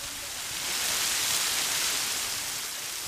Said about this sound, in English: They took us to two waterfalls, a big one with at least a 30-foot drop and another smaller one that allows visitors to slip behind.